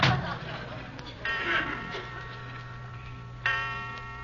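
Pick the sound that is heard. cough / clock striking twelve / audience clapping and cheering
clock striking twelve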